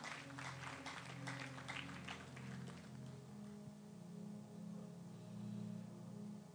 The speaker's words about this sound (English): But England, let's give England a super clap offering.